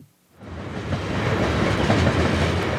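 A train roars by overhead on a railroad overpass in Spokane, Washington, a loud, steady rumble with rattling clatter that swells in quickly after a brief quiet moment and holds. Nobody speaks.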